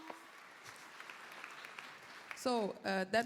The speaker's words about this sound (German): Das war eure Runde. Das war eigentlich euer Applaus und für euch von unserem Publikum hier.